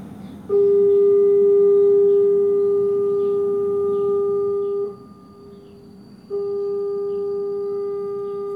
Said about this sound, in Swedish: Det där var färjan, den sista färjan gick. Det du hör i bakgrunden är alltså rena research-ljudinspelningar från ön Ogijima.